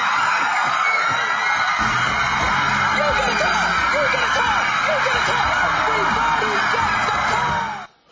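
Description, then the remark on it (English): The studio audience of The Oprah Winfrey Show screams and shouts in wild excitement as every person is given a car, a dense, continuous roar of overlapping high-pitched voices that stays loud throughout before cutting off abruptly at the end. “Now, it was clearly good news, which created great joy, didn't it? Or perhaps hysteria.”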